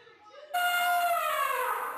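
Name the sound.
elephant trumpeting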